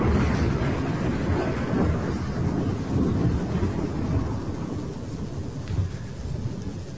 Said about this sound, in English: It's supposed to be the sound of thunder. Can you? But I didn't hear it.